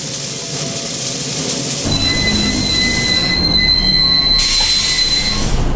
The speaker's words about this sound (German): Der Zug hielt.